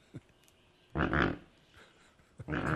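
American white pelican croaking: two low, rough, breathy grunts, each about half a second long and fairly loud, separated by a short pause, with a faint brief sound before them.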